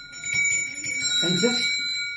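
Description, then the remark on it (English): Kutchi cowbells ring with bright, sustained metallic overtones that shimmer steadily throughout, while a low voice murmurs briefly underneath midway. “These are genuine kutchy cowbells.”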